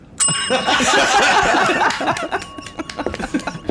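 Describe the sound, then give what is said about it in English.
A counter service bell rings with a bright metallic ding and lingering ring, while people burst into loud laughter around it, chuckles trailing off afterward. “takes the bell, removes it, and puts it into a drawer.”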